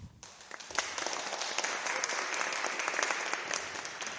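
Sustained applause from a concert audience at Sankt Pauli, a dense stream of overlapping claps for a singer who has performed, starting abruptly and holding steady at a fairly even, moderate loudness throughout, with no voices standing out.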